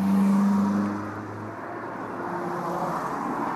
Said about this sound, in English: I'm on a four-lane main road of Johannesburg, 10 minutes foot walk away from my house. The traffic is fast and hectic